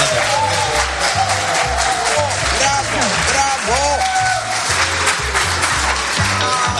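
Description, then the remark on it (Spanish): A large audience at the Palacio de Congresos applauds loudly and steadily for several seconds, dense clapping, with scattered cheers and shouting voices rising through it. “O sea, aquí quiero hacer un aplauso.”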